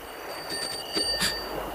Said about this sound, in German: Ich werd verrückt. Mein Fahrrad. Ich kenne doch die Klingel.